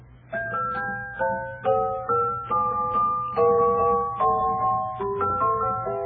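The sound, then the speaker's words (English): A celeste plays the Dance of the Sugar Plum Fairy from Tchaikovsky's Nutcracker Suite: bright, chiming bell-like notes in a steady, lilting melody, each struck note ringing and fading, over a faint low hum. “And what is the instrument that was being played there? The celeste.”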